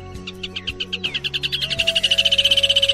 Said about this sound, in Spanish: El fuerte y valeroso albañil se había convertido en un pájaro que con un silbo muy agudo saludaba a su libertad.